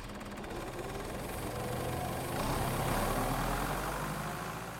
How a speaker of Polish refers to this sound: Dźwięki wiejskich maszyn.